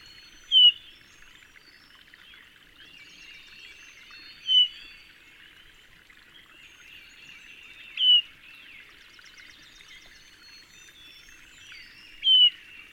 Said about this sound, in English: Rarely heard is the hermit thrush's flight note, which sounds like the peep from a spring peeper, a tiny frog.